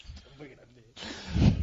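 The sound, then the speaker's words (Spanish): A person snoring while asleep: a loud, rough, rasping snore swells at the end after a quieter, voice-like murmur. “De ronquidos. Son ronquidos, tú.”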